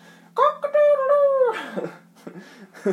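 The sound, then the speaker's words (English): A person imitates a cockerel's crow with one drawn-out, wavering call that falls off at the end, followed by some softer breathy vocal sounds, fairly loud. “I don't know what cockerels say, I've never had one.”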